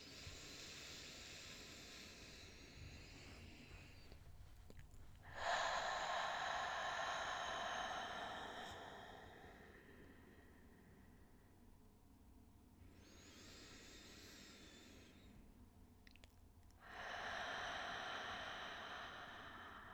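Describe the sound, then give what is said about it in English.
Slow, deep breathing: long airy whooshes of air drawn in through the nose and pushed out through the mouth, a few unhurried cycles separated by quiet pauses, with no talking. “I invite you into a space of taking just a handful of full, deep breaths in through the nose and out through the mouth, maybe just transitioning to nose breathing after you flush out the breath.”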